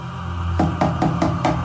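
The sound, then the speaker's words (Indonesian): Five evenly spaced knocks on a bedroom door, steady, starting after a brief pause over a low background hum. No one speaks. “Ketika tertidur, samar terdengar suara pintu yang diketuk.”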